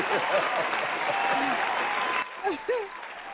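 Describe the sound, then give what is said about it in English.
An audience claps for the singers in a steady, dense burst for about two seconds with voices talking over it, then the clapping stops abruptly and only a few voices remain. “All the shout-outs from all the singers here, all the shout-outs, I would like to give them an applause for putting up with them through their music time.”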